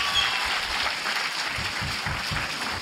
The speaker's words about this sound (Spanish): Un aplauso a Mario Capistrán, por favor.